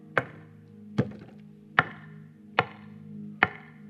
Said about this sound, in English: Revelations 3:20. Words of Jesus, he says, behold, I stand at the door and I knock.